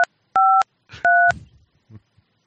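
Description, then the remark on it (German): Three crisp dual-tone telephone keypad beeps from dialing a phone number, the first very short and the next two longer, sounding loud, with faint murmuring voices and soft rustling between and after the presses. “Oh, ich habe die Tastentöne noch an, das tut mir leid. Hört ihr die?”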